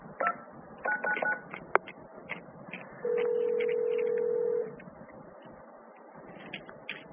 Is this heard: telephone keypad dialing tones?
yes